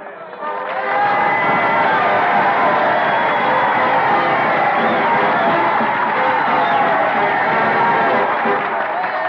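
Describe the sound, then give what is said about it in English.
A large crowd at Cemetery Hill in Gettysburg cheers and clamors loudly after Edward Everett's two-hour oration on a chill gray November day in 1863, a dense, steady wash of many voices that swells up within the first second and holds strong to the end. “It lasted 2 hours, but the crowd there loved it.”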